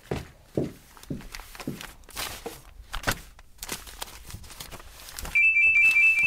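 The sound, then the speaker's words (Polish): Footsteps knock across a hard floor, then a telephone suddenly starts ringing near the end, a loud, steady electronic tone that drowns out everything else. “Ale nieznośny sygnał. Gdzież jest ten telefon?”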